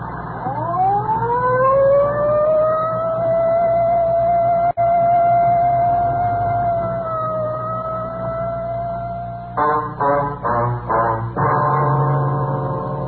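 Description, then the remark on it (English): A police car siren wails loudly as the car drives in the rain, holding a long rising tone before switching to rapid yelping bursts near the end, with road noise rumbling underneath. “Well, I'd better use the light and sirens”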